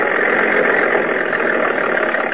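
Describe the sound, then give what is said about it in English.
A small tractor engine idles steadily, a continuous even rumble with a faint rapid throb, holding the same loudness throughout with no voices. “Yeah, and just listen to her purr.”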